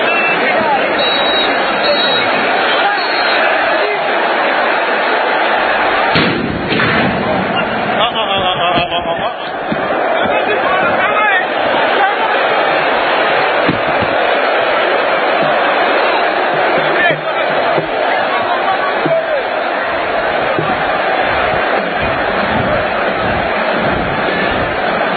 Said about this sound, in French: Sur ce, écoutez l'ambiance qui a régné au stade après le coup sifflé final.